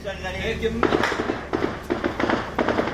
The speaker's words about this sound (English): This was gunfire close to the MSF office.